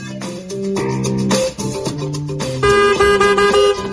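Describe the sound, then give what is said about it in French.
Loud car horns honk in long, overlapping blasts, their brassy tones shifting in pitch as several horns blare together for the whole stretch, with no voices. “Oh, mais qu'est-ce que vous avez à klaxonner comme ça?”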